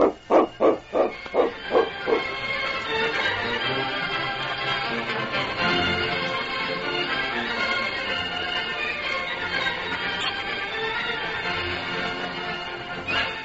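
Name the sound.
dog barking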